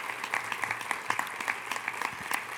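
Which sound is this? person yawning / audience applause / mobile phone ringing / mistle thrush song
audience applause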